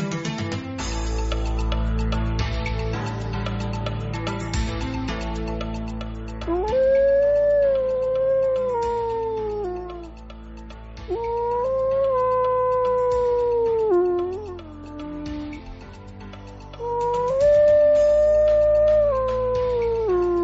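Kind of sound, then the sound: animal, wolf howling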